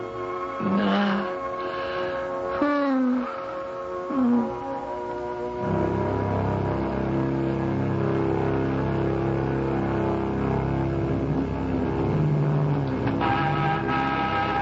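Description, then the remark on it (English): A sports car engine revs in a few rising, whining bursts, then settles into a steady, loud rumble as the car pulls up, with no voices. “You still have the sports car. Get in.”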